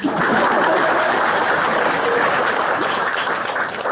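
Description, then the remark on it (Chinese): A crowd at a Buddhist gathering claps steadily for about four seconds after a disciple's speech of thanks, a dense, even crackle of many hands at fairly loud volume with no voices standing out. “你怎么讲完了人家都不鼓掌的”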